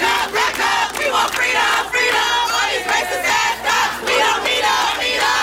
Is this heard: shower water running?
no